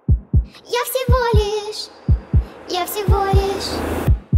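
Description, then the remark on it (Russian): A steady heartbeat thumps in deep double beats, about one per second, clear, while wavering tonal sounds like a hummed or synthetic melody rise over it in between. “Нет, постой, кажется, ты уже дышишь, и твой пульс становится четче.”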